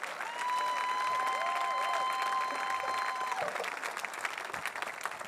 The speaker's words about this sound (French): Alors, tu devrais applaudir. Donnez une belle ovation au Seigneur pendant un instant.